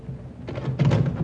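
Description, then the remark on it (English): A door is opened: a soft, muffled thunk of the latch and the door swinging, then a fuller rustling knock-like sound as it moves, with no voices. “I'll get the door, Mom.”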